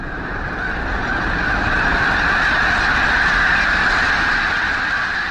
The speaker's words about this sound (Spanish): Aunque dura solo unos segundos, el despegue de gansos es uno de los grandes eventos en la observación de aves. El estruendo de 10.000 alas retumba hasta los huesos de quien lo mira, y persiste por un rato.